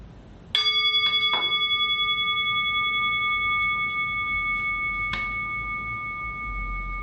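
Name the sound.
meditation bell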